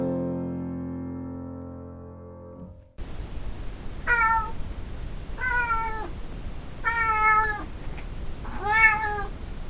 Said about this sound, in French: Quand mon chat n'est pas content